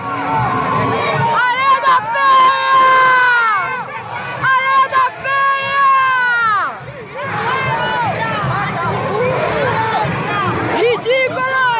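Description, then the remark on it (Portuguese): A large crowd of spectators at the Anhembi Sambadrome shouts a rhythmic chant in unison, 'ridículo' and 'Maria da Penha', loud, with voices rising and falling in repeated phrases and brief pauses between them, amid a dense roar of many people. “Aos gritos de ridículo, Maria da Penha, Maria da Penha, a plateia presente ao sambódromo do Anhembi impôs ao agressor a punição máxima.”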